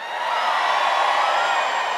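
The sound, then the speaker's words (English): An outdoor audience, including people way in the back on the hill, screams together on cue in a steady, sustained roar of many high voices that holds at an even, loud level for about two seconds, with no one speaking over it. “Let me hear you scream!”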